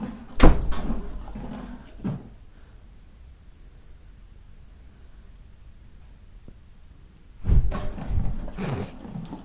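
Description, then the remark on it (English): A door is pushed closed with a solid thud, and a second click follows as the latch drops. A quiet stretch follows, then another burst of clattering and rattling near the end. “This one just pushes shut and latches down.”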